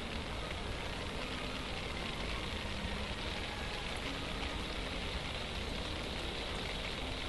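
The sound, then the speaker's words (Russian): Night forest rustling fills the whole stretch as a steady, soft hiss of textured noise, holding an even level throughout with no voices and no distinct separate events. “Шорохи ночного леса.”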